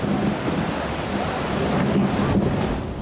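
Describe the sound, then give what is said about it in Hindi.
A loud, steady roar of storm rain and wind from Cyclone Roanu in the Sundarbans, West Bengal, as it moves across the Bay of Bengal toward Bangladesh; heavy, with a deep rumbling undertone throughout and no voices. “रुआनु तूफान बंगाल की खाड़ी में तेजी से बांग्लादेश की तरफ बढ़ा है।”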